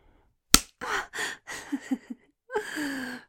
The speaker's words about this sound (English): I love it when you slap me.